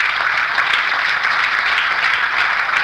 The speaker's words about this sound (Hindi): तो तालियां बजाना घाटे का सौदा नहीं है।